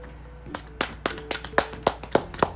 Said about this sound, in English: Let's give a round of applause for our champions because Butterfree's lasted a long time.